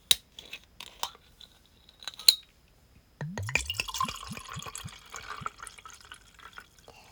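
A few sharp clicks and clinks as a bottle of Chamisul soju is opened, then the soju glugs rhythmically from the bottle into a glass for several seconds, clear, with no one talking.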